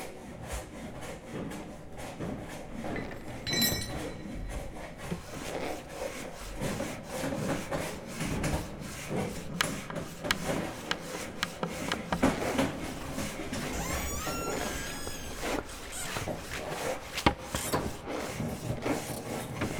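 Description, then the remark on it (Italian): Wooden beams creak and groan as the wood settles, amid steady rasping, sawing-like scraping and knocks of ongoing building work on a basilica's dome while its roof is prepared. A few drawn-out creaks rise above the busy, continuous clatter; no one speaks. “Il suono dei lavori, gli scricchiolii delle travi, il legno che si assesta, mentre il tetto della basilica viene preparato”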